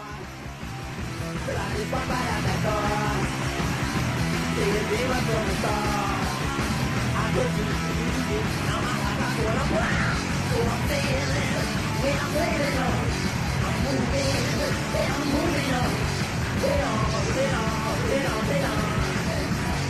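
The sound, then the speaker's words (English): A loud, dense band recording of a fast song from an early-1980s cassette by a Washington, DC band, its first commercial release, with full, driving instruments playing steadily throughout and shouted vocals over the top. No one speaks over it. “Let's hear our next song snippet.”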